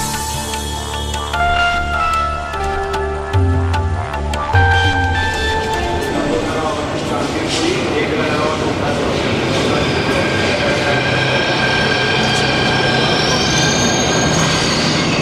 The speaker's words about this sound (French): Mais oui, le métro de Delhi, on va l'écouter, c'est ça ?